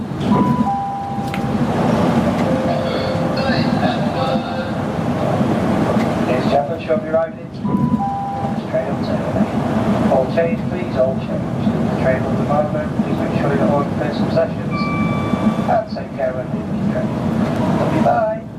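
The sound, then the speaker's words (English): Bright two-note PA chimes ring out a few times over the steady rumble of a moving train, with a muffled announcement voice speaking between them. “There were a few bing-bongs to disguise the actual destination of the train so as not to make it too clear who the fellow is and get him fired or anything.”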